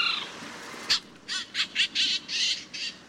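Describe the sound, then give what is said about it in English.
A Canada jay gives a series of about seven harsh, scratchy calls in quick, uneven succession, with no one talking. “And unlike most other birds that nest in spring and summer, Canada jays spend that time caching food for the next winter.”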